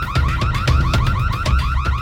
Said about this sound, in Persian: قبل از اینکه هلن چیزی بگه صدای آژیر یکی از مغازه ها به صدا در اومد و خانومی که فروشنده مغازه جواهر بود سراسیمه فریاد کشید: دزد! دزد!